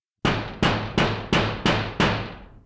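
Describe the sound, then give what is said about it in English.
Part of a drum is banged down hard on a pipe from inside a cupboard: six loud metallic bangs at a steady rhythm, each a sharp clang with a ringing tail that fades before the next hit. “He banged it down hard on a pipe. Bang, bang, bang!”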